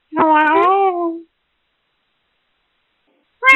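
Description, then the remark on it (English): A cat in a Planet Fitness locker room gives a long, drawn-out meow lasting about a second, then after a pause starts another that is cut off at the end. Fairly loud, with no talking. “The cat wants to talk to you.”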